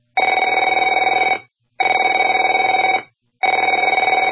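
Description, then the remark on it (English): A telephone rings in three long, buzzy bursts of about 1.3 seconds each, separated by short silences, loud and steady with a bright, trilling electronic tone and no voices. “Afraid to answer it?”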